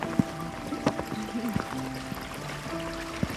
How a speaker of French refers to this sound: On prend le petit ruisseau en bas.